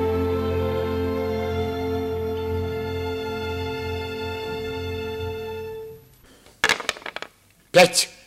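A sustained musical chord fades out, then dice clatter in two short, sharp rattling bursts, one after the other, against a quiet background.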